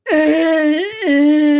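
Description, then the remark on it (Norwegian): A voice imitates how its owner cries, with a sustained, wavering whimper, two drawn-out tonal wails separated by a brief dip, loud. “Sånn føler jeg at jeg gråter.”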